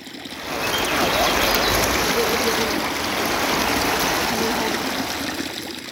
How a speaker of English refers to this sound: From the ripple sounds of river,